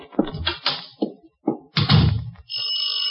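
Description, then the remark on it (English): Several heavy knocks on a door land in an uneven rhythm, fairly loud, followed by a steady high-pitched tone that holds to the end. “Will you open the door?”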